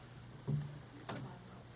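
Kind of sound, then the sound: household object, door being closed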